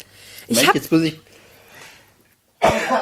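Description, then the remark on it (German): A single sneeze: a couple of breathy, rising voiced gasps build up, then after a short pause comes a sharp, loud, hissing burst. “Das ist ja gerade Niesen Corona.”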